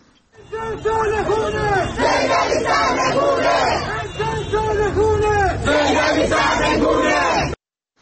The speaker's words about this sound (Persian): در ویدئویی که به رادیو فردا ارسال شده، گروهی از معترضان در قزوین شعارهای نظیر امسال سال خونه سید علی سرنگونه و مرگ بر خامنه‌ای سر می‌دهند.